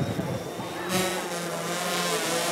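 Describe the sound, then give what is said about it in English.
Small drones whir with a steady, high-pitched buzz that swells louder partway through as they swoop and hover across a ballroom, with faint indistinct voices in the background. “Drones swoop and hover across the ballroom.”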